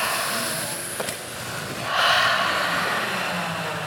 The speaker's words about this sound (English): Let's do one big breath together, shall we? Let's just do a little bit of breathing. I haven't breathed in days and days. Let's do that. So everyone in the room, big breath in.